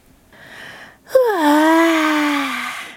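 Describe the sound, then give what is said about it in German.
A single drawn-out yawn, voiced by a person acting out a bored character while reading a children's story aloud: a soft intake of breath, then a long, breathy, falling moan that fades after about a second and a half, alone. “Gähnt Clara gelangweilt.”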